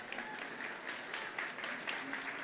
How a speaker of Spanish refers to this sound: Y pues bueno, quiero no despedirnos, sino antes darte un fuertísimo aplauso, tocayo. Muchísimas gracias.